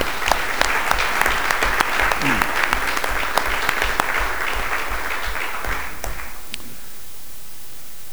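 People clap steadily for several seconds, a dense patter of hands that fades out toward the end, leaving a quiet hiss.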